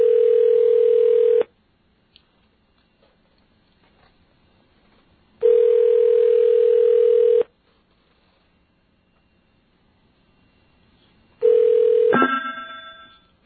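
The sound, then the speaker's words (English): A landline telephone rings over the line in three long, steady electronic tones, evenly spaced with silent gaps between; the third ring is cut short by the clatter of the receiver being picked up. “And that sounded like a really nice ring you had just now.”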